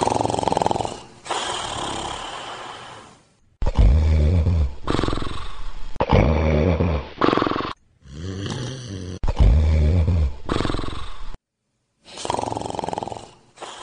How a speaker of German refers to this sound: Endlich ging sie in ihrem Jammer hinaus, da sah sie den Wolf auf der Wiese liegen und schnarchen.